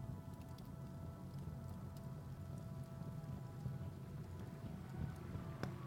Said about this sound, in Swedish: Det börjar regna. Det bara duggar lite. Det skulle inte regna, de lovade. Men det kanske bara är en skur kanske.